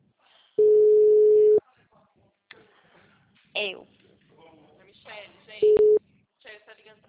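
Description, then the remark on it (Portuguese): A loud, steady telephone tone sounds for about a second, followed by a shorter beep of the same pitch later on, with people talking quietly in between. “Con telefone.”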